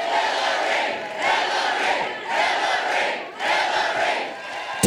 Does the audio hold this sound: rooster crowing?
no